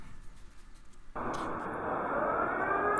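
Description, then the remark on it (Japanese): An air raid siren inside a shopping mall during wartime suddenly starts up a second in, cutting over a low background murmur, then holds a loud, steady wail that slowly climbs in pitch. “今ショッピングモールの中なんですが、空襲警報が鳴りました。”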